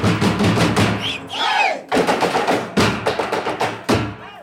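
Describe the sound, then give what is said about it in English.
Fast, steady drumming by a group of drummers in colorful costumes with painted faces, playing plastic garbage containers in Mukuru slum, Kenya, under a scorching sun. Loud hollow thuds in a driving rhythm, with the noise of a crowd of young people underneath and a brief pause for swooping shouts partway through. “the musicians aren't playing instruments, they're playing garbage. More precisely, they're using plastic containers,”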